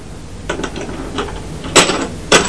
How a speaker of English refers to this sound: Oh! Did you knock my tower over?